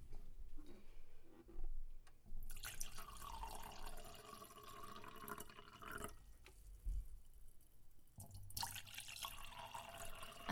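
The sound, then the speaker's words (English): Wine pours into a glass in two steady, gurgling streams separated by a short pause, a bright splashing trickle with faint drips and no talking. “You know how to pour.”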